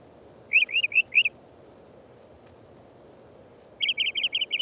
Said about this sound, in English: The Mockingbird is a favorite, singing an ever-changing medley, often repeating each phrase 3 to 5 times.